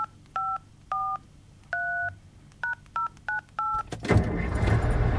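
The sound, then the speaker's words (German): Seven clear keypad tones beep in an uneven sequence, some longer and some quick, on a work mobile phone used as a time clock to log working hours at a construction company in Hattingen, Westphalia, Germany, before a burst of broad rushing noise takes over near the end. “Die Stechuhr ist aufs Handy gewandert.”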